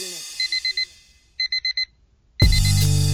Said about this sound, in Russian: Дай бог каждому завтра услышать будильник.